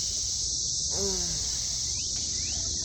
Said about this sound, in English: While millions of cicadas are begging to be fucked all around you.